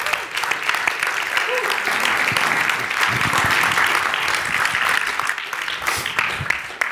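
An audience applauds steadily for about seven seconds, a dense, even wash of clapping that stays loud throughout with scattered sharper claps poking through.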